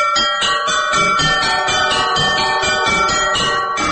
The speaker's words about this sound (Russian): «Вятские звонари»